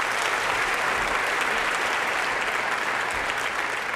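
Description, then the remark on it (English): An audience applauds steadily, a dense, even wash of clapping with cheering mixed in, loud and sustained for the whole stretch without pause or voices standing out. “I finished and just saw a sight pretty similar to this with just people cheering.”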